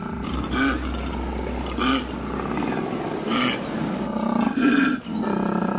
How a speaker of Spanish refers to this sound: En los aromáticos bosques de eucaliptos de Australia Oriental, un ronco coro de amorosos koalas anuncia la llegada del verano.